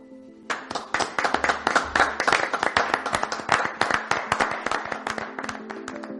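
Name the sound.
applause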